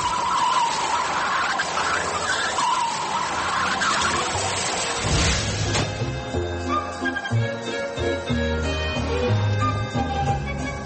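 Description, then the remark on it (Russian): A Soviet-made Moskvich 402 car, bought in 1958 by Yuri Vasilyevich Yakovlev, drives by with loud, rough road and engine noise and a squealing, wavering tone for about five seconds, then steady music takes over for the rest. “Легенда советского автопрома 402-й «Москвич».”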